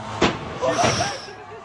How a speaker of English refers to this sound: And the girl's like stepping on the gas. They're trying to close the door. Oh, my God.